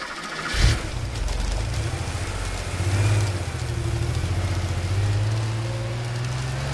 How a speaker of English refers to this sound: I could hear cars starting up and setting off all evening, and from time to time I looked out at our car park and I could see that it was almost empty.